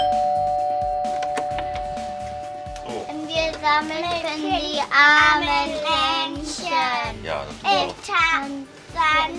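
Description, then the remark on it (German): A doorbell chimes at the start, its tone ringing out and slowly fading, then a group of children's voices, Sternsinger carol singers going door to door collecting donations, begins singing together. “Klingeln, singen und Spenden sammeln.”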